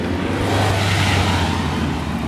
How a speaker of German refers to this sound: Ja, man hört manchmal am Gasgeben der Menschen, wie aggressiv sie gerade sind, oder?